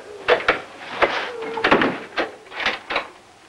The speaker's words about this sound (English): She walks out, shutting the door.